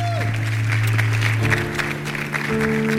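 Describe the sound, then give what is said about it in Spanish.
An audience breaks into sustained, dense applause for guest Fer Ariza at the close of the show El diario de Patrica, a steady wash of many hands clapping at once, with held musical tones playing underneath throughout. “Fuerte el aplauso para Fer Ariza, que hoy ha estado en el diario de Patrica.”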